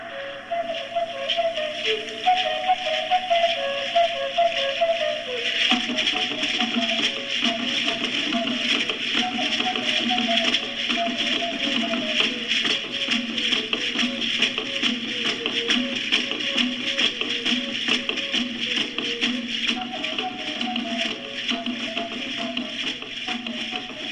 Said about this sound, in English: The music that you hear is played on a reed flute, usually either bamboo or some kind of other reed, and tied to it with leather or with some kind of vine is a small drum about 4 inches in diameter.